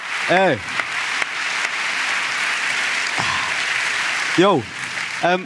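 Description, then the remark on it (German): A crowd claps steadily in a dense, continuous burst lasting several seconds. Two short rising-and-falling whoops cut through near the start and again near the end. “Ich finde, das ist schon fast mal Applaus für den Schelker Werdi.”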